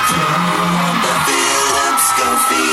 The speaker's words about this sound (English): 10 years on, the crowd are singing it back to you, but this time with your name in the jingle. That's a real goosebumps moment, isn't it?